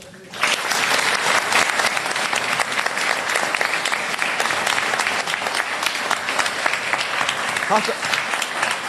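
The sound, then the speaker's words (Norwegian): An audience breaks into applause after a brief silent moment, a dense, steady crackle of many hands clapping that holds at a fairly even loudness to the end. “Kunne vi ikke gjøre åkken sjølven av klapp?”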